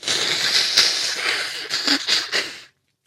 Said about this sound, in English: I'm going to blow my nose.